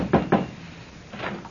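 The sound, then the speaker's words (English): Two quick, solid knocks on a wooden door of a place with rooms to rent, followed after a short pause by a softer, duller thump. No one speaks. “Come on, somebody. Answer the door.”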